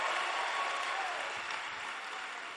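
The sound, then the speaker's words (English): A large crowd applauds steadily as a clap offering to the Lord, a dense wash of many hands clapping at once, sustained at an even level throughout with no talk over it. “Give the Lord a mighty clap offering and you may be seated.”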